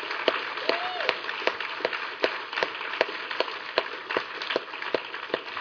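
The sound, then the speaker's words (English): An audience at a weekend retreat applauds the women who helped with the tables, games, music and food, in a steady, dense wash of clapping, with a few sharper claps standing out at a regular beat throughout. No one speaks. “But let's just give those women a round of applause for all their help.”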